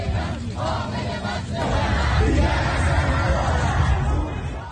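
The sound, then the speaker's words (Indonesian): A large anti-government protest crowd in Iran on Sunday night, on the second day of demonstrations against the military, shouts and chants together in a dense, continuous roar, growing louder midway and holding steady with overlapping yells and no single clear voice. “Protes-protes anti-pemerintah pecah lagi Minggu malam di Iran, memasuki hari kedua demonstrasi menentang militer.”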